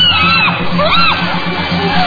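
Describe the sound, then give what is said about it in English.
A loud, chaotic chorus of apes screaming to intimidate a rival group, several overlapping high shrieks and hoots rising and falling in pitch, continuous for the whole moment with no talking. “To intimidate their opponents, the aggressors scream and drum on buttress roots.”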